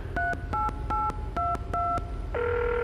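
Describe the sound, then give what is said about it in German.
A phone number is dialed with five quick, evenly spaced touch-tone beeps, each a clear two-note chirp, followed by a steady sustained phone tone. Fairly loud, with no voices. “Ich habe ja auch noch einen Telefonjoker. Mal gucken, ob wir da noch mehr erfahren.”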